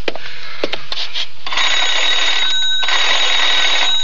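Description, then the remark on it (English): A few sharp clicks and rattles, then an old telephone bell rings loud in a continuous metallic trill for a couple of seconds as a call is placed to the operator, with no one speaking. “May I use your phone?”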